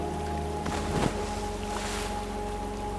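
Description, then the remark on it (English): A brief splash about a second in, as something knocked off a fishing boat falls overboard into the water, heard over a steady low engine hum and the wash of water around the boat. “Just as he reached his hand for the night crawlers, that's when we heard the splash.”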